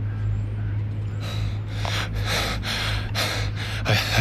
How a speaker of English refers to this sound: Fortunately, he's not much of an athlete. Nathune's bent over, breathing hard.